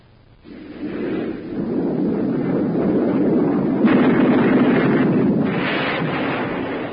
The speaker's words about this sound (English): That was an F-86 Sabre jet fighter in actual combat in Korea. I'm George Welch, chief test pilot of the Sabre jet at North American Aviation in Los Angeles. The Sabre is 37 feet long, weight 8 tons.